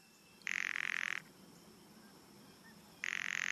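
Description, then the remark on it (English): Two dry, rattling bird calls, each a rapid buzzy burst under a second long, loud, separated by a few seconds of quiet outdoor background. “Rattles.”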